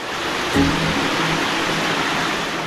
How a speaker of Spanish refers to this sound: Un río subterráneo y cristalino, el Padirac, se desliza por estas galerías para desembocar 20 kilómetros más adelante en el río Dordoña.